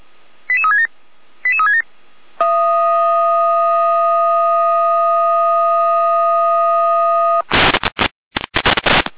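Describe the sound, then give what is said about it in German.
A fire brigade dispatch alert from the Jena control centre (Leitstelle Jena), a repeat alarm: two short descending tone bursts, then a long steady multi-tone signal for about five seconds, ending in loud, choppy bursts of harsh digital data noise. “Jena mit erneuter Alarmierung.”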